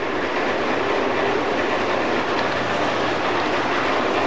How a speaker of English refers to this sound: As you heard, we have a green signal, so we're having a good run now. That train's cleared, and we're running now down towards Tottenham Station, or South Tottenham Station.